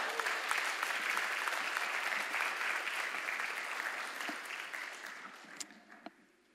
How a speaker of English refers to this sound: Oh my goodness, you're just sitting there. Not a big deal. I have to clap for you. If I were you, I would be clapping, because clapping is to give praise to our Lord Jesus Christ, our living hope. Amen.